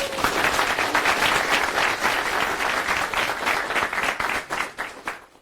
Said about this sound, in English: Please welcome them with a round of applause.